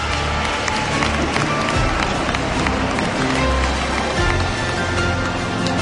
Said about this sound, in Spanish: Y ahí hemos dejado el mejor aplauso para el final, ¿no? Así que despidamos a la reina de las fiestas de la Hispanidad 2022,